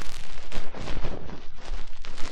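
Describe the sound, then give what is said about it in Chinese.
Fireworks explode in a dense, continuous barrage of loud booms and crackling bursts, overlapping with almost no pause, with no voices heard. “今夜烟花，谢谢诸葛心”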